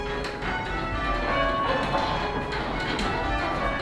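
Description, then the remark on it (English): A dense peal of church bells rung full circle, each bell swinging a full 360 degrees on a wheel attached to its headstock, overlapping strikes blending into a steady, reverberant wash of metallic tones, loud and sustained with no voices present. “A wheel attached to the headstock allowed the bell to swing in a full 360-degree circle, which enabled things like this.”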